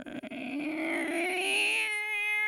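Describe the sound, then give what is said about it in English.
A person imitates a cat with a long, drawn-out meow that rises in pitch and ends on a steady, nasal tone, loud with no other sounds around it. “That's too cat-like.”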